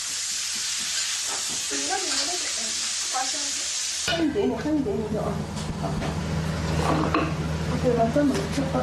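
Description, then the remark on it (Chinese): Food sizzles loudly as it goes into a hot wok in a Chinese family kitchen, where a daughter cooks a family meal helped by her mother and grandmother; a steady bright hiss of frying shifts partway through as utensils stir and clatter, with people talking over the cooking. “啊，把那烧放在灯在电锅里烤就下锅了。”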